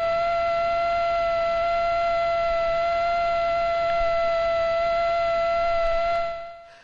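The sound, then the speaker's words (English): A male Aedes aegypti mosquito beating its wings at about 600 hertz, 600 times a second, makes a steady, high, reedy whine, unbroken and even in pitch for about six seconds before fading out quickly. No one speaks. “That is a male mosquito buzzing its wings at something like 600 hertz, 600 times a second.”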